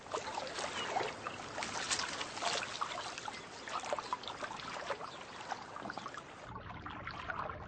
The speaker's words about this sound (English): The sound of running water is their stimulus to shore up gaps with timber and plug leaks with mud.